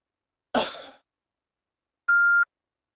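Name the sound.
phone call ringing tone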